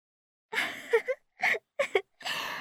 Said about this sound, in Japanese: 大きなあくび。